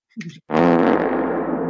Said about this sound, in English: Maybe the wettest fart sound alert.